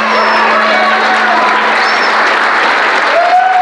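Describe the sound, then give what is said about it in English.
A crowd at a debate applauds loudly and steadily, dense overlapping clapping filling the whole stretch without pause, with a few faint whistles or whoops rising above it. “But as I kind of slowed down to do that, the crowd started clapping.”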